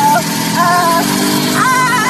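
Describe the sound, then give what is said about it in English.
A woman rides a moped scooter away: a loud, buzzing engine whine that climbs in pitch, eases off, then revs upward again over a steady low rumble. “But then when she scooters off at the end, it sounds a lot like, again, the beginning of the clip here.”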